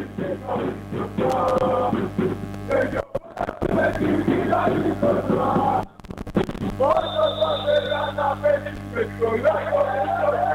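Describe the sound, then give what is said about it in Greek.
A large crowd of Ekrixi fans chants loudly and steadily in unison during a time out in the gymnasium of Nea Michaniona, their voices blending into a dense roar, broken by two brief cutouts, then returning in more rhythmic, pulsing bursts. “Ακούμε εδώ τα συνθήματα από την έκρηξη.”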